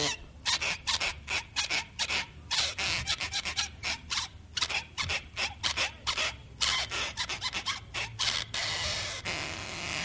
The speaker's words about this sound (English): Tune it up a little bit here. There it is, right in tune. Oh, fiddle on a cornstalk, fiddle all day. Fiddle up a tune in the old-time way. One, two, three, four, ready, set, go. Play the corn fiddle with a shoestring bow.